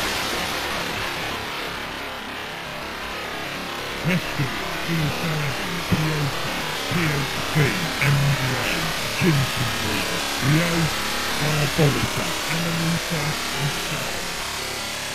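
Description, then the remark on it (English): A steady, full-spectrum hiss of white noise runs throughout, and after a few seconds faint murmuring voices seem to surface and fade beneath it. “People hear all kinds of things in white noise.”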